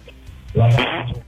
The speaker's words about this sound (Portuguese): Ô, velho, você peidou. Ai, o cara peidou isso na minha frente.